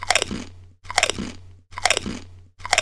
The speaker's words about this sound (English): or someone eating a hamburger.